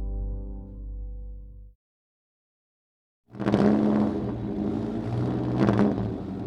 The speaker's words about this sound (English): And his sleek, silver Mercedes-Benz is a rocket ship compared to the other machines starting the 1955 Le Mans 24-hour race. Only Fangio is going nowhere fast.